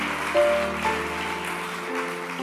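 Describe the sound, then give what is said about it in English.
An audience claps steadily, a dense, rain-like patter of many hands, with sustained keyboard-like tones ringing underneath and a couple of brief swells in loudness. “You can clap if you are clapping.”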